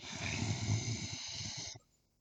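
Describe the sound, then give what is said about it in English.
A person lying on their back makes a rough, raspy vocal growl, one sustained rumbling breathy sound lasting under two seconds before cutting off abruptly into quiet. No talking. “I can make, like, a really cool growling sound.”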